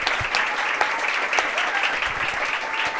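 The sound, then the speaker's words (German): Steady applause from an audience at a book event in Bremen, a dense wash of many hands clapping at an even level throughout, with a few louder individual claps standing out. “Einen großen Applaus”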